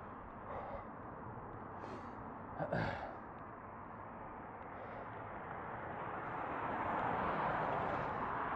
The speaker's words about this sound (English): Ah, some wind. Do you like wind? Remember, it's not noise, it's ambience.